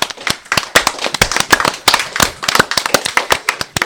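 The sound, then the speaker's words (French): Dense, sustained applause from an audience for all the candidates of the Web Radio, many hands clapping in rapid overlapping bursts that fill the whole stretch, loud with no voices over it. “un tonnerre d'applaudissements, s'il vous plaît, pour tous les candidats de la Web Radio depuis le début.”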